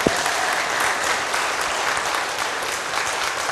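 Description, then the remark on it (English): An audience claps for baby Jesus in a steady, dense wash of applause that holds at an even, fairly loud level throughout, with no voices rising above it. “Can we give big applause to Jesus, to baby Jesus? Clap for baby Jesus.”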